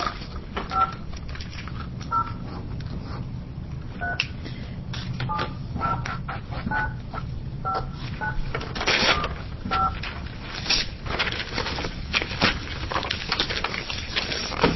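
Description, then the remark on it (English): A string of touch-tone phone dialing beeps as a number is dialed to call someone, short and evenly pitched, tapped out in an uneven rhythm over steady background hiss and scattered clicks, with no one talking. “So then we're gonna call Nan Evans on the phone.”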